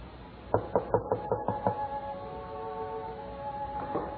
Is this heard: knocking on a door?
yes